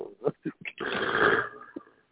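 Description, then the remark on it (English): A few short guttural grunts, then a loud, sustained raspy growl lasting about a second that fades into a rough breath. A human voice produces it, imitating an animal growl. “Can we get a growl?”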